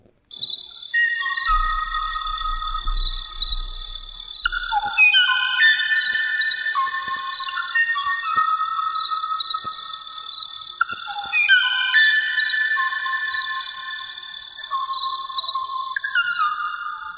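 A bird sings a steady run of clear whistled notes, stepping down and back up in pitch over a constant high tone, loud and continuous with no talking.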